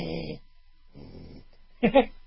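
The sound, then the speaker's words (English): A person imitates a low animal growl without moving their lips, in three short rumbling bursts, the last one louder and rougher, with brief silences between them and no talking. “So I would growl.”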